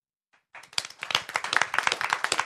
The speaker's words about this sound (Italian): Veramente applausi, molto sentiti, insomma, da tutti quelli che sono al suggeritore Night Live